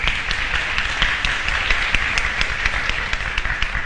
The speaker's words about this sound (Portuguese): Aí, uma salva de palmas, professora Jebson.